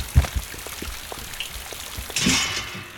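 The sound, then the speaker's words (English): Steady rain falls outside, a soft hiss dotted with scattered drips and taps, swelling into a louder, fuller downpour for the last second or so. No one speaks. “I'm sure the rain will wash those chunks out of your clothes in no time.”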